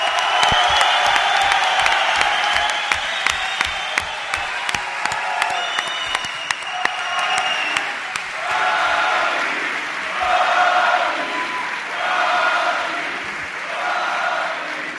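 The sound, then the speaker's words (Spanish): An audience bursts into loud, sustained applause with cheering and whoops for Joaquín Sánchez, adoptive son of El Puerto de Santa María, thick clapping for about eight seconds before settling into swelling waves of crowd noise and shouts. “Pido un aplauso para el hijo adoptivo del puerto de Santa María, Joaquín Sánchez.”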